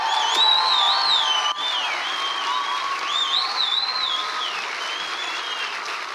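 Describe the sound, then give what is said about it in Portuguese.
A large audience claps to welcome Pastor Cláudio Duarte in a dense, steady wash of applause that holds strong for several seconds, with high, wavering whistles sliding through it. “Pastor Cláudio Duarte, vamos recebê-lo com uma salva de palmas.”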